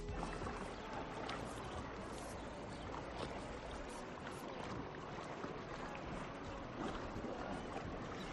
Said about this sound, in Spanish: Esto que escucháis para mí es vacaciones, el sonido del mar rompiendo sobre las calas de Menorca.